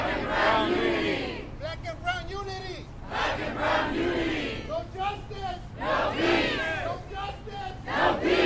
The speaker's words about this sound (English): Hundreds of protesters gathered at Mariachi Plaza, on foot and in cars